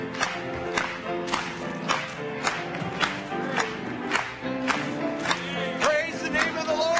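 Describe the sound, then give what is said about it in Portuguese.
An audience claps in steady unison during a Christian worship song praising Christ in the afternoon, sharp claps landing on a regular beat, with crowd voices singing and calling out beneath them throughout. “Vamos bater palmas para Ele esta tarde.”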